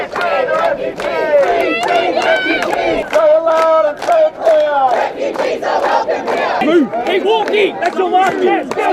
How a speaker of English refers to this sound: A crowd of protesters at the Mantra Hotel in Melbourne's north attempt to stop the transfer of 60 asylum seekers.